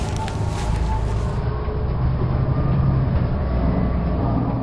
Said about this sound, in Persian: اتوبوس بلافاصله بعد از سوار شدن من حرکت می کند.